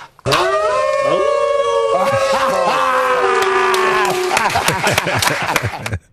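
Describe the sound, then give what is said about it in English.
Several people let out long, overlapping wolf-like howls, voices sliding up and down in pitch for about six seconds, loud and sustained before breaking into ragged yips at the end. “I am ready to howl.”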